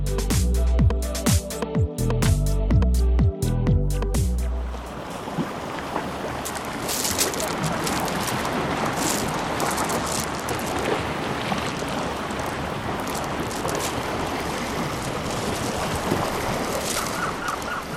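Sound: sea waves and wind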